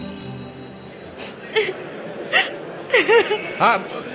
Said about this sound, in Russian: А почему она плачет? Что случилось?